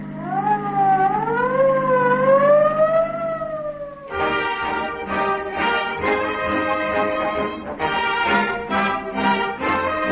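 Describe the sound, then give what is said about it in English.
A loud emergency siren wails in slow rising sweeps, then switches to a harsher, buzzing blare that cuts in and out in short bursts, with no talking. “Most powerful motor cars on the road today are emergency cars, the police cars that answer your call for help, the fire engines that thunder through crowded streets at top speed, the ambulances that rush to the rescue of injured persons.”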